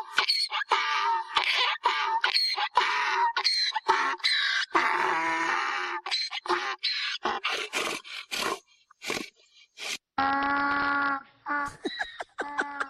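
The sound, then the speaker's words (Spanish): A donkey brays loudly in a long series of harsh, rasping hee-haws, alternating wheezy gasps with honking calls, ending in a few drawn-out tonal notes. “Oye, chicos, eso sí es un burro.”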